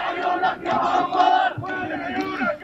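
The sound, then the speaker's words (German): A group of young Palestinian men in the old town of Nablus in the West Bank chants loudly in unison, calling for Yasser Arafat, their voices rising and falling in a steady rhythmic call, a dense, continuous crowd sound. “Junge Palästinenser in der Altstadt von Nablus rufen nach Yasser Arafat.”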